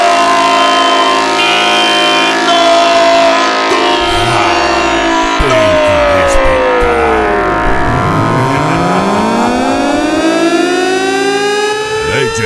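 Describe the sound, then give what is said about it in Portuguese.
A loud LTS horn, the 'corneta do racha', blares nonstop for about twelve seconds, its pitch gliding up and down in wailing sweeps. An engine rumbles underneath, and no one speaks. “LTS, a corneta do racha.”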